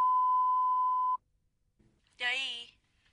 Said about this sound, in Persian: سلام، در حال حاضر کسی در منزل پاسخگوی تلفن شما نیست. در صورتی که پیغامی دارید لطفا بعد از شنیدن صدای بوق ممتد بفرمایید.